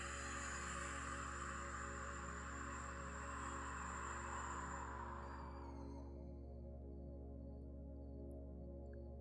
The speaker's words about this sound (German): Und zwar, dafür kannst du hier so sitzen bleiben und durch die Nase einatmen und mit jeder Ausatmung wie so ein Pfff machen. Ich mache dir das mal vor, kannst auch direkt mitmachen. Du atmest über die Nase ein. Und mit der Ausatmung.